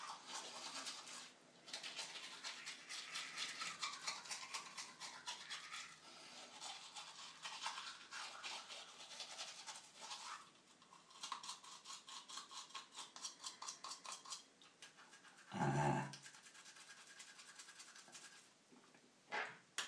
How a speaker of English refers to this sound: Cleaning teeth is like an internal spring clean.